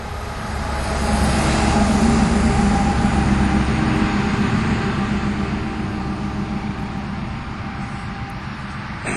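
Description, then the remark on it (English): A steady, fairly loud rumble of passing vehicles, a broad low roar that swells early and stays constant with a faint hiss on top; no one speaks. “Listen, the traffic's got to die down a little bit.”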